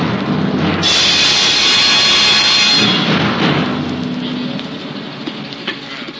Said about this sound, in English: the storm that raged that night round the rugged battlements of the castle of Cedric